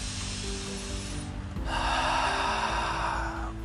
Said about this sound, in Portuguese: Vamos puxar mais uma respiração profunda.